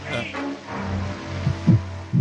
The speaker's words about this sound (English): You hear that sound? Yes, Castle. The sound of a heartbeat.